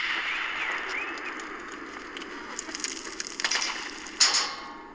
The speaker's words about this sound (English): Gunshots. In this bit you use a wheelie bin as protection from bullets.